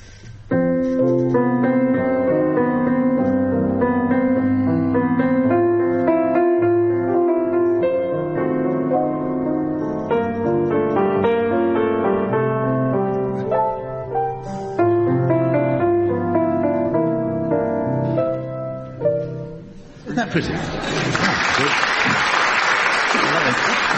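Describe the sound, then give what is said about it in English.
Melody in F is played with each bar repeated twice, a gentle, flowing melody that runs steadily for about twenty seconds before being cut off by a burst of loud applause. “Each bar of melody in F played twice.”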